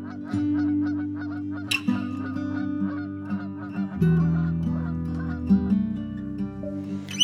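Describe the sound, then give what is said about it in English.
A flock of geese flying high overhead honks over and over in a busy, overlapping chorus of calls, with a steady low droning tone running underneath the whole time. “Skies all open wide, geese go high and over.”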